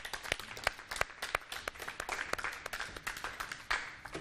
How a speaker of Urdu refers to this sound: اب آ رہی ہے ٹیم بی، تشریف لائیں، تالیوں سے استقبال کیجیے.